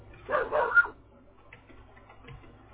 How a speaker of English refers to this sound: Oh, you got some dogs there, huh? Yeah, you going wild or something. What kind of dogs do you have? Australian Shepherd. Oh, I love Australian Shepherds.